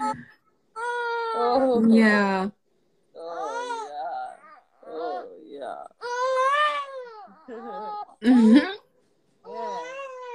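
A baby boy fusses and cries while breastfeeding, around his gassy time, in a string of short, high-pitched, wavering wails separated by brief pauses, with one sharper, louder cry toward the end.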